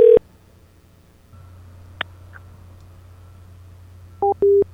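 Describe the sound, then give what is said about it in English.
A phone line goes quiet after a short tone as the woman on the other end hangs up, followed by a sharp click and faint hum, then loud electronic phone tones start beeping near the end, like a busy signal after a hang-up. “Oh, she just hung up that time.”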